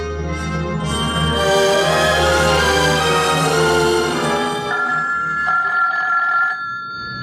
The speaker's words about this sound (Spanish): En la casa vacía grita el timbre insistente